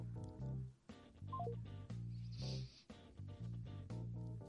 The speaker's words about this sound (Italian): Aspetta, allora faccio la chiamata su WhatsApp.